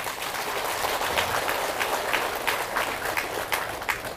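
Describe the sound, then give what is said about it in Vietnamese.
Sustained applause from a crowd, a dense steady wash of many hands clapping at once, holding an even loudness for several seconds with faint sharper claps standing out now and then. “thì hãy dâng cho một tràng vỗ tay thật lớn nè.”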